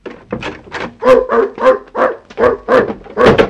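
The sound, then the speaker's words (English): A dog a little bigger than a toy poodle, locked up in a bedroom, barks excitedly in a quick, steady string of about ten loud yaps, with whining, whimpering tones mixed between the barks. “No, it's a little bigger than a toy poodle.”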